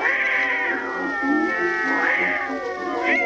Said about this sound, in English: what is that hideous noise? Why, that's Tiny, my beautiful little Maltese cat.